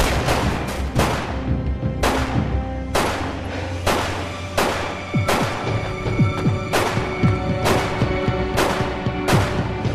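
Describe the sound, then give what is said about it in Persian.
Heavy gunfire crackles in a steady barrage of repeated shots, with sharp bursts landing every second or so over a rumbling, busy background. It is loud, with no pauses. “با این همه تیراندازی فقط سه تا گلوله به ماشینت زدن؟”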